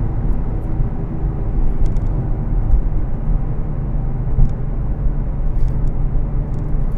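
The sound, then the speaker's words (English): A car engine roars loudly at 5,000 to 6,000 RPM in second gear at about 50 miles an hour through steep corners on Snake Hill. It is a dense low rumble that holds steady throughout with slight surges, with no voices over it. “Second gear, 50 miles an hour. This car is amazing. 5,000, 6,000 RPM.”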